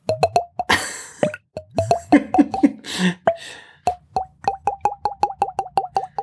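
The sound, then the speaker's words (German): A whole bottle of wine glugs out into a single glass in a rapid run of hollow, mid-pitched gulps, splashy and uneven at first, then settling into a steady, rhythmic series of glugs. No one speaks. “Und jetzt wohnt sie in diesem Haus und gießt sich gerne die ganze Weinflasche immer in ein Glas.”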